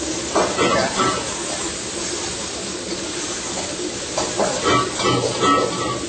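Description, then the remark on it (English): Vegetables, including broccoli, sizzle steadily in a hot pan on high heat as a little water is added for steam, a dense crackling hiss that runs for several seconds with faint clatter and brief voices in the background. “All right, when I put the veggies. I'm gonna put a little bit of the water for the steam.”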